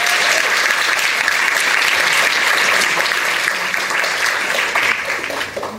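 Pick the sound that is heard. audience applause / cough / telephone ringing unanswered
audience applause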